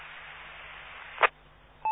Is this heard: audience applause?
no